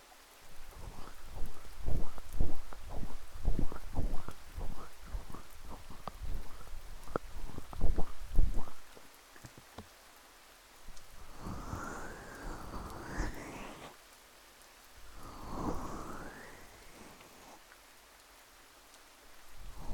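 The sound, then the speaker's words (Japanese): Steady rain hisses throughout, soft and continuous, beneath crackly rubbing taps of an ear massage in the first half and two breathy swooshing sounds later on. “生徒に雨で冷えた耳をコリコリってマッサージされる気分は、驚いたようなその吐息もこの雨の音にかき消されちゃいますね。”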